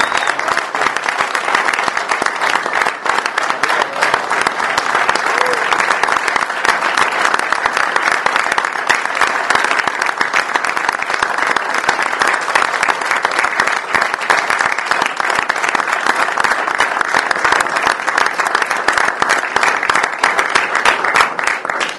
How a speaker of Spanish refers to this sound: Yo quiero un aplauso para todos los compañeros y compañeras que hicieron un gran trabajo.